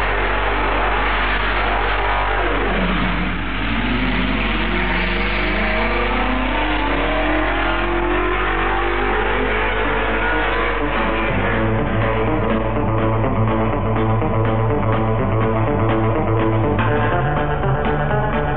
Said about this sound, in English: The music could possibly be louder than the cars, but at a drag race meeting, that is physically impossible. Can I say welcome, everybody, to the Santa Pod Roadshow?